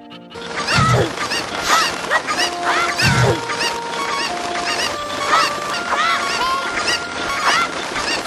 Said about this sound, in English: There are chickens in here and I ate them and turned them into eggs. So I guess we know what came first now. There were too many chickens and I couldn't lick them all up fast enough. They are like homing chickens and they just kept coming for me.